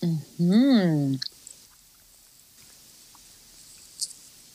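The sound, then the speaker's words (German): A brief hummed voice sound, then soft chewing of a firm peanut and strawberry cream chocolate bar with quiet crunchy bites and mouth noises continuing for a few seconds. “Also, ich habe echt gedacht, wenn ich da reinbeiße, dass ich da irgendwas Rotes finden werde.”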